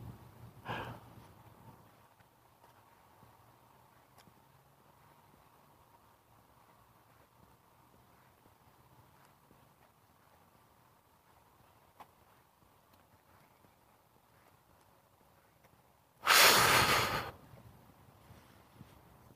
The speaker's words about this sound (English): Dogs look very interested this morning. They're prancing around, sniffing the air.